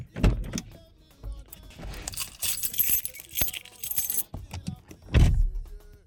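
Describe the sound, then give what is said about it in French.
Someone climbs out of a car: rustling and shifting, keys jingling, scattered clunks, then a solid door thud near the end. No one speaks. “C'est parti, je descends de ma voiture déjà.”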